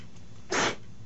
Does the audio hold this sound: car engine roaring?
no